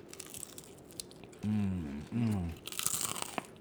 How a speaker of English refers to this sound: Egg rolls. Egg roll pizza egg rolls. Listen to the crunch. Here we go.